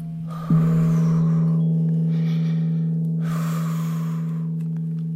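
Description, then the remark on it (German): Two slow, audible breaths, a long deep inhale and then an exhale, over a steady low humming tone that rings throughout. No one speaks. “Jetzt atmet ganz tief ein und aus.”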